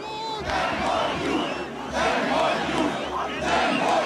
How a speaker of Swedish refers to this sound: Vi tänker inte låta det ske, skrek nära 10 000 demonstranter som samlades vid finansdepartementet i Budapest.